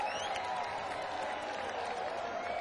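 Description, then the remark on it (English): A large festival crowd of fans applauds and cheers for themselves, a dense wash of clapping and whooping that holds at an even, loud level throughout without pause. “Give yourselves a round of applause, man.”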